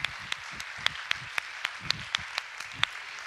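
An audience applauds steadily, a dense wash of clapping punctuated by sharp, regularly spaced claps that stand out almost in rhythm. No one speaks over it.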